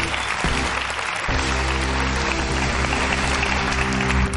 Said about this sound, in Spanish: Un aplauso de consolación para Pablo Ibarburu.